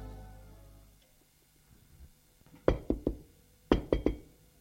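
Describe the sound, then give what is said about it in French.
Two quick rounds of knocking on a bedroom door, each three sharp raps in a rapid rhythm, separated by a short pause. The knocks are loud against a quiet background with no one talking. “On a frappé à la porte.”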